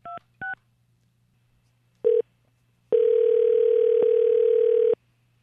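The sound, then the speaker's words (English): Two quick touch-tone dialing beeps as the hosts of the show After 9 phone a listener, followed by a short pause, a brief tone, and then a steady, clear phone tone held for about two seconds, with no voices. “Let's call one here.”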